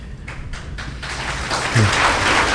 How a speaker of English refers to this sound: We'll try to hold the applause during the right after each response so we have more time for questions.